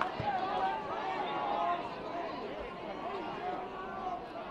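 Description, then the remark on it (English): A large baseball crowd at Kauffman Stadium in Kansas City, at a Kansas City Royals game, reacts to an umpire's call on a curveball pitch with a sustained, rumbling roar of mixed voices, steady and fairly loud throughout the few seconds, with no single voice standing out. “Hear from the crowd what they thought about that one.”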